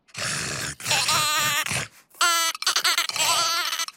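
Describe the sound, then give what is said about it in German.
A sheep bleats several times in a row, loud, with wavering, nasal calls separated by short pauses and one higher, clearer bleat in the middle. “Hallo, Schaf. Möchtest du vielleicht Auffressen mit dem Krokodil spielen?”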